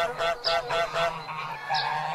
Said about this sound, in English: But one morning, as he was walking by the pond, he saw both the goose and the gander making a great noise, as though they were in the utmost glee.